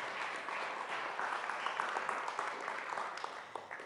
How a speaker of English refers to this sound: Yes, clap for Mike, because that's always brave.